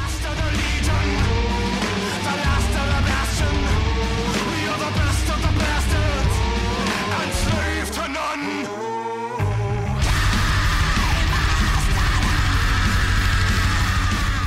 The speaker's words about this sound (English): Or the incredible blues and black metal fusion in this song